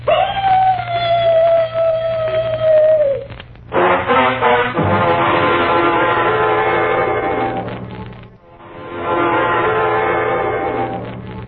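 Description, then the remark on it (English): A single long, mournful dog howl holds a steady high pitch that sags slightly downward over a few seconds, followed by loud, dense rumbling noise. “First, the mournful dog howl.”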